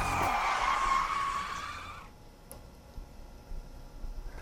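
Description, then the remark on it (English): A loud, shrill brake screech wails for about two seconds, its pitch wavering slightly, then cuts off abruptly, leaving only faint background noise. “Hit the brakes, Reg.”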